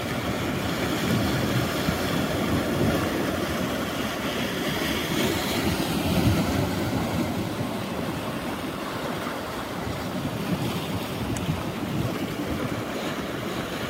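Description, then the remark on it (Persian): Steady wash of seashore water at a beach by the Khalij restaurant, reached from Casino Boulevard: waves rolling and surging continuously with a broad rushing hiss, some wind buffeting mixed in. No one speaks; the surf sound stays fairly constant and loud throughout. “میبینید چه صدای آبی میاد؟”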